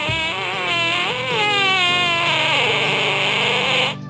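A drawn-out, squealing fart sound effect, called the blowing smoke fart, lasting about four seconds, with a high, wavering, reedy pitch that bends up and down before cutting off abruptly. No one talks over it.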